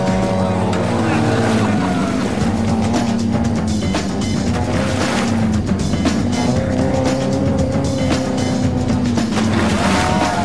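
A car engine roars hard at full throttle as the driver floors it through a lake with a three-minute time limit running out, its droning pitch rising and falling over a constant wash of splashing and churning spray.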